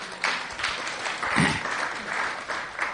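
A crowd applauds steadily, a dense wash of clapping hands that stays fairly loud throughout, with a faint voice or cheer briefly rising in the middle.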